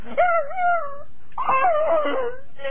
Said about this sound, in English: You hear the dogs? They're here. Lots of them. Come on, bark! Bark, you! You hear them? Yes, I do. Right now, I'm petting the dog.